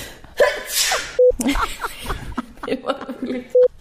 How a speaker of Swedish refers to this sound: Vänta, nu nyser jag.